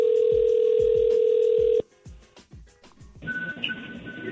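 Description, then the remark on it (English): A steady phone dial tone hums with quick keypad beeps tapped over it as a call is placed to merge into a three-way call, then cuts off into a short pause before a line connects with a ringing tone and hiss. “You have to call Champagne from your phone so your number pops up on her phone.”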